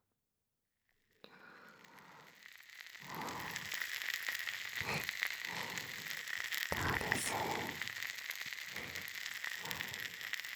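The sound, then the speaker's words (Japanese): Continuous fizzing and crackling of carbonated water bubbles by the ear, a dense sparkling hiss with soft pulsing swells, and a brief quiet voice speaking over it. “シュワシュワ。パチパチ。不思議な感じでしょ。”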